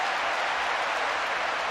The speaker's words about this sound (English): As Wisconsin is cheering on Bucky Badger.